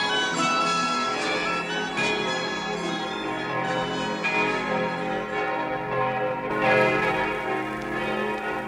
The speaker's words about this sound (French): Il y a exactement 475 ans, les Parisiens s'éveillèrent au bruit de toutes les cloches, sonnant à grande volée dans la triple enceinte de la cité, de l'université et de la ville.